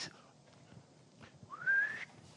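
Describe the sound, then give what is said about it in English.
One short, loud, rising whistled note, mouth-whistled in imitation of a traffic police whistle blast signalling stop, sounding alone against a quiet, faintly noisy background. “While he directing traffic, he have a whistle sometimes.”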